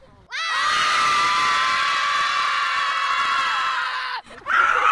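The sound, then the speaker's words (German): A group of schoolchildren deliberately make noise, screaming and shouting together at full volume, a sustained roar lasting about four seconds, breaking off abruptly before a brief second burst of yelling. “Machen wir mal Lärm.”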